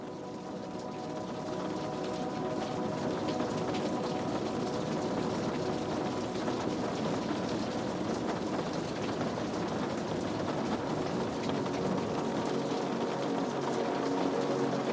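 Steady rain pattering against the window of a room, a dense, even hiss of drops with a low rumbling undertone, continuous for the whole stretch, no voices.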